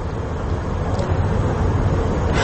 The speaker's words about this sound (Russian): Это грузинские машины, да, вот она везет. Гроб, да. Гроб.